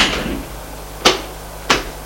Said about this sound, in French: Le lendemain matin, après son petit déjeuner, Maurice va à son bureau pour prendre un dossier. Il ouvre la porte et voit le coffre ouvert.